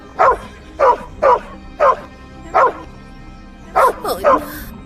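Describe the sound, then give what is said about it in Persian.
A small dog barks sharply and repeatedly, trying to warn of gas, about eight high-pitched yaps evenly spaced at first and then bunching into a quicker cluster at the end. “سلام سگ کوچولو.”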